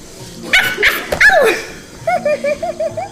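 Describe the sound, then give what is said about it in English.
A dog barks loudly, a few sharp barks, then follows with a quick run of about six short, high-pitched yips in a steady rhythm. “Good morning, Doggy.”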